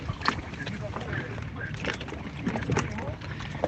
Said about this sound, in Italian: Ma sempre ascoltando La Zanzara, io sto sulla mia barca a mare. Sentite?